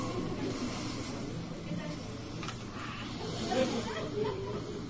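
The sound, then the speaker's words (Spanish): Wind howls and hisses at night in a steady, breathy rush that swells faintly now and then, with soft whistling tones drifting through the noise. No one speaks. “Después de eso, la noche continuó serena y tranquila, solo con el aullar del viento.”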